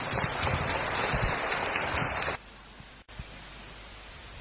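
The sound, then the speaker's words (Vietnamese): An audience claps to welcome Master Huệ Liên before he speaks, steadily for about two seconds, a dense crackle of many hands, then the applause cuts off abruptly, leaving only a quiet hum of room noise. “Xin quý vị dành tràng pháo tay lắng nghe sự chia sẻ của Đại sư Huệ Liên.”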